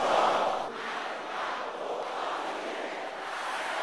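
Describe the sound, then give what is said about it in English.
A church audience shouts a prayer phrase together, against the jaw and the backbone of the wicked, in the name of Jesus. It is a dense, continuous roar of many overlapping voices that peaks at the start and then holds steady and loud for about four seconds. “Can I hear somebody shouting this?”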